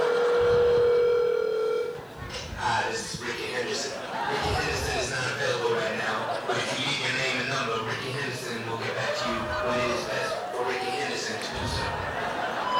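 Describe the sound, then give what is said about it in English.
A telephone is dialed to call Ricky Henderson: steady tones sound clearly for the first couple of seconds, followed by a busy mix of voices and chatter with some laughter that runs to the end. “In fact, that reminds me, I gotta give that motherfucker a phone call, you know?”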